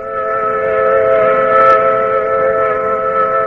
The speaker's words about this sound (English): The sound to which you are listening is the sound of a mill whistle in Carrollton, a cotton mill.